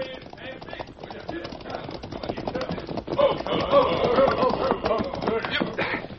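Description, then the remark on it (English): Horse hooves clip-clop in a quick, steady rhythm, growing louder partway through as Fancy Bill and his gang ride down a draw toward the listener, with a busy mix of other sound underneath. “he was roused by the sound of approaching hoofs”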